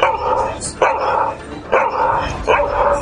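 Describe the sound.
A voice imitates a dog barking: four loud, yappy barks in a steady rhythm, each sustained and ragged, with almost no pause between them.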